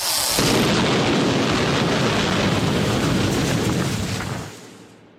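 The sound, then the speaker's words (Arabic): A massive explosion of a bridge being blown up erupts into a loud, sustained rumbling roar with crackling debris for several seconds before fading away abruptly near the end. No voices are heard. “لورنس بالثورة هو عبارة عن ضابط خبير متفجرات لا أكثر ولا أقل، يعلم الناس كيف المتفجرات ويدربهم على تفجير الجسور أو الآليات اللي يحتاجوا إلى تفجيرها لا أكثر ولا أقل.”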